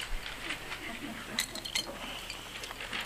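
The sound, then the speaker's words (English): A few light, bright clinks of a glass of water amid soft handling and swallowing sounds as a sip is taken, ending with a sharper knock as the glass is set down. “And I'll have a sip of water.”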